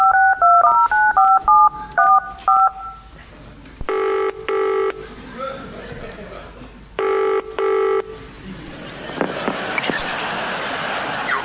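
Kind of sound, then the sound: signal or alarm, telephone keypad dialing tones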